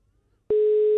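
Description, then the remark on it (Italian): A brief quiet gives way to a loud, steady electronic telephone tone, the ringing heard on the line while a dropped call is being called back, holding unbroken to the end. “Sentite squillare, immagino.”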